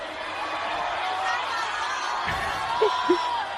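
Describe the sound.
A large concert crowd in Guatemala roars in response to a call for a shout from all those proud to be from Guatemala, a steady, dense wall of shouting voices at an even loudness, with a couple of short, higher whoops poking out near the end.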